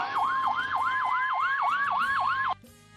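Sirens of a fire truck and an ambulance blare loudly, passing a traffic jam at the south exit toward Valdivia after an accident, a fast, regular yelping wail layered over a steady high tone, then cut off abruptly near the end, with no voices.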